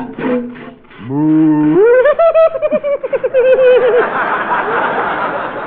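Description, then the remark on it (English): A loud, drawn-out moo that rises in pitch and breaks into a wobbling, stuttering bellow, likely a voice imitating a cow being milked outdoors in the cold by someone wearing woolen mittens, followed by a wash of audience laughter. “I have a cow out here and I'll milk her.”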